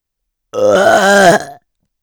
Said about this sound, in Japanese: ゲップ、いっぱいかけちゃうよ。